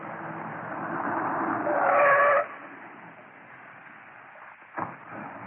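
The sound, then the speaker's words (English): A car rolls up way out in the sticks with a steady rumble that swells, brakes give a short squeal, and the noise cuts off as it halts. A single soft thump follows a few seconds later. “Come on, stop the car.”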